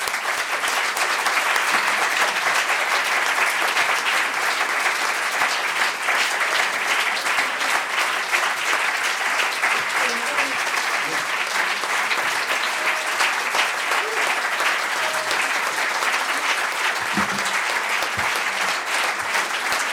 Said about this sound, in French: Alors, je vous demanderai de monter sur la scène et on vous applaudit.